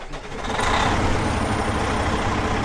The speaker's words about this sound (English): topping off his tractor trailer at the Lee Service Plaza on the Mass Pike in Western Mass.